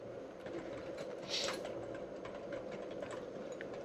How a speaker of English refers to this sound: I'm sorry, I know I should not be typing, but I cannot help it.